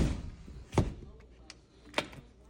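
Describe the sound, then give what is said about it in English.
A door is pushed shut, making a sharp thud followed about a second later by a second, lighter knock, against a faint murmuring room background. “Shut the door.”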